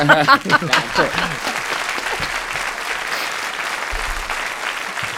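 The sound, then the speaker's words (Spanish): Audience applause for a woman who founded the firm Elo Construcciones rises as a voice finishes speaking, then settles into a steady, dense wash of clapping that carries on at an even level to the end. “Un aplauso para esta mujer.”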